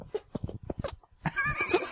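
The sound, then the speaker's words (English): A quick run of short, sputtering hand fart squelches made with the hands, followed by a longer, louder squeaky blast with a wavering, whinny-like pitch. “I'll just do it with my hands. Yeah, do hand farts.”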